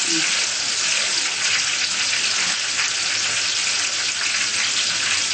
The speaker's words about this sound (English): It's frying well. Deep fry, quick, simple.